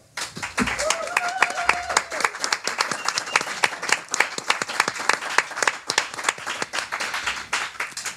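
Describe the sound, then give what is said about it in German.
A crowd breaks into sustained applause for the Hidden Harlequin team and for themselves, dense overlapping hand claps filling the whole stretch at steady loudness, with a brief rising whistle or cheer near the start. “An dieser Stelle nochmal ein riesen Dankeschön am ganzen Hidden Harlequin Team und euch selber nochmal so einen riesen Applaus.”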